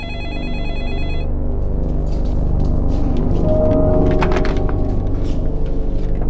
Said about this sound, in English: Shortly after midnight, the phone at the Smith house rang again.